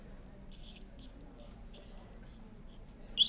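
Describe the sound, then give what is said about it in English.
A recording of animal whistles, each individual's whistle differing in structure: about six short, high-pitched sweeping chirps repeat every half second or so, fairly faint over a low, steady background rumble, with the last one slightly louder. “The structure of the whistle is different between individuals. So I'm going to play these so you can have a listen.”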